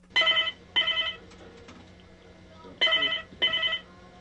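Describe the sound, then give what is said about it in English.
A telephone rings on a Saturday-morning call-in show on an AM radio station in Mosul, Iraq, in two double bursts, each pair of short, bright trills separated by a pause, heard clearly over a low steady hum with faint background murmur. “Every Saturday morning, it's open phones on Mosul's AM radio station. Iraqis can call in and ask the U.S.”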